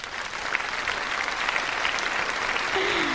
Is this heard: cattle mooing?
no